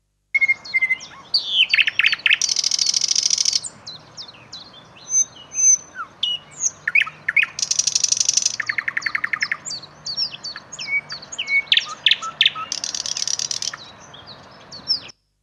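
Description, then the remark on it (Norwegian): A nightingale sings alone in a rich, varied song of whistles, rapid chirps and buzzy trills, with repeated loud rattling bursts, against a quiet background. “Nattergal.”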